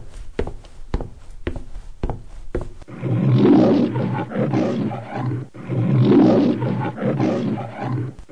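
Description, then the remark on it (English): A few soft footstep-like taps, then a lion lets out two long, deep, rumbling roars that swell loudly and fade, with a brief pause between them. “If we head to that corner we will meet the lions.”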